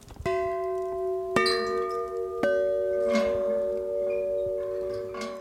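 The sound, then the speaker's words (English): Metal bells struck one after another, three distinct strikes whose bright, shimmering tones overlap and hum on, then fainter chimes and clinks as the ringing slowly decays; fairly loud, no talking. “And then these are bells that we sort of like, the ones that are out at Terra.”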